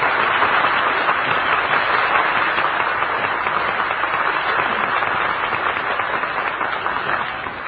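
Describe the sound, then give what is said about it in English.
A crowd claps for servicemen and women standing on their feet, steadily and loudly for several seconds, a dense, even wash of many hands with no pauses, tapering slightly at the end. “And now, ladies and gentlemen, I'd like to have all of these servicemen and women get up on their feet, and let's give them all a big Hollywood and breakfast applause.”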